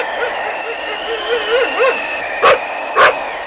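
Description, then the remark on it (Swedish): A dog, Milo, fetching a hat blown off by the wind as a thunderstorm approaches, gives two short, sharp barks about half a second apart, following a few soft wavering whines over a steady background hum. “Milo, hämta hatten. Ta den kvickt.”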